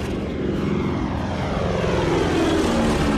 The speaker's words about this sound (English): The plane descends through falling snow toward a runway illuminated by red and green lights.